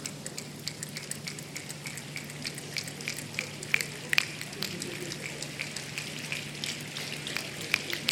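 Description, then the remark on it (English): An audience at a live stage show patters with their hands to imitate rain, a dense, steady crackle of small taps and snaps with occasional sharper clicks, sounding like rainfall or sizzling, with no one speaking. “There's no laughter in rain.”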